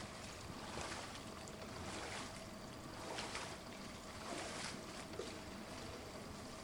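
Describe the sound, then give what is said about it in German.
Water laps and splashes slowly and steadily in a swimming pool where two girls drift slowly, soft surges rising every second or so over a continuous wash, moderately quiet, with no voices. “Nur das langsame Plätschern des Wassers ist zu hören.”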